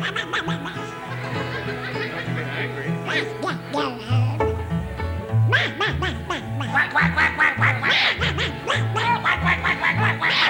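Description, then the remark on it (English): A voice imitates a duck with a string of nasal, buzzy quacks in uneven bursts, mixed with snickering laughter, loud throughout. “I'm a lonely duck.”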